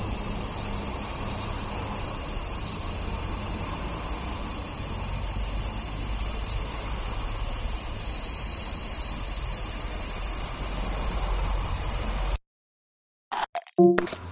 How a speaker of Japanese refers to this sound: はい、聞いていただきました。カエルさんの日常露天掘り、今月、8月のテーマはセミの鳴く場所でございます。